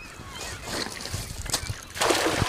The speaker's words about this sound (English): The net splashes into the water and he starts reeling it in. He dumps a net full of little silver wiggling fish into his bucket.